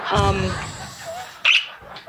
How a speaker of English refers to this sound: Ow! My bird just flew into my face. That was not pleasant.